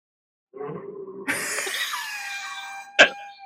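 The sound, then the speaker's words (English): A short, low cough is followed right away by a person letting out a shrill, wavering horse-like whinny that slides downward in pitch, ending with a sharp burst. The whinny is a man's involuntary, Tourette's-like response to the cough, imitating a horse. “We think it's, he reacts to somebody else's cough by doing a horse whinny, an involuntary horse whinny.”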